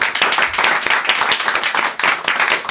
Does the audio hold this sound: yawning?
no